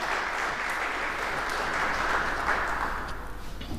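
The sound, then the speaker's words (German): Steady audience applause at a talk event, clapping on cue after a countdown from four to one, a dense wash of many hands clapping at an even level for several seconds before thinning slightly at the end, with no voices over it. “4, 3, 2, 1. Klatschen.”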